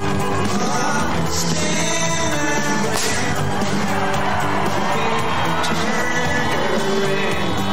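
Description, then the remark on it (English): A confetti cannon goes off with a sharp pop at a Biden and Harris rally, unexpected by the candidates, amid a loud, continuous roar of cheering and shouting crowd noise, with a few smaller cracks scattered through the din. “Well, except for one moment, when a confetti cannon went off, and based on the candidates' reactions, it doesn't look like they were expecting it.”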